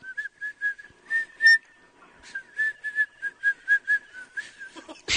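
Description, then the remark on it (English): A woman who cannot whistle tries to whistle a simple tune, sucking air in: a string of short, breathy notes at a steady pitch with airy hiss around them, uneven and halting, ending in a brief burst of noise. “She's trying, I told you guys I can't whistle.”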